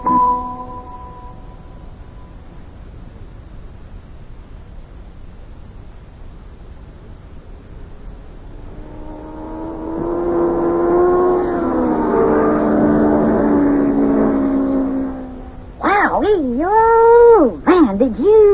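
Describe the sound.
A race car roars past on a racetrack during time trials before the Indianapolis race on Memorial Day. A rising, droning engine whine swells loudly for several seconds, then cuts off, followed by a voice wavering up and down in pitch.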